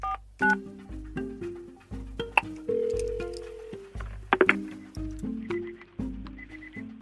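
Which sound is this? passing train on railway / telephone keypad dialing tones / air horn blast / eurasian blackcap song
telephone keypad dialing tones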